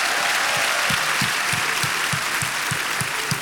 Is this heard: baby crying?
no